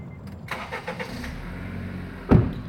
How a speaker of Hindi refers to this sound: चेन्नई से विल्लुपुरम तक आए हमारे ड्राइवर साथी से सुबह की दुआ सलाम के साथ गाड़ी फिर स्टार्ट हुई और हम विल्लुपुरम शहर के बीच से पांडिचेरी हाईवे की तरफ निकलने का रास्ता तलाशने लगे।